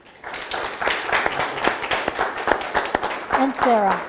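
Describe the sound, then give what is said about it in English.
A crowd applauds young people steadily for about four seconds, dense overlapping claps forming a loud, even patter, with a voice or brief cheer rising over the clapping near the end. “They are sharp, sharp young people, my friends, and let's applaud them today.”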